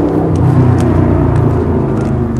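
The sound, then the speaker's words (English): A loud, steady engine roar rumbles throughout, the low growl of a motorcycle or souped-up car revving on Danforth Ave at night, with no voices over it. “Somebody either on a motorcycle with a really souped up car.”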